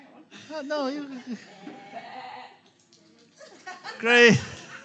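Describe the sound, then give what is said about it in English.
Two wavering sheep bleats, a long quivering one near the start and a shorter, louder one near the end, with softer murmuring sounds between them. “The man left the 99 sheep grazing.”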